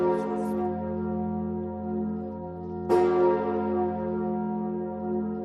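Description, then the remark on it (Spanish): Large new cathedral bells, cast in Normandy, toll at a cathedral in Paris marking its 850th anniversary, with a deep, resonant ring, a fresh strike landing around the midpoint as the long overlapping hum sustains and decays, loud and spacious with no voices. “Lo hacía con el tañido de unas nuevas campanas fundidas en Normandía.”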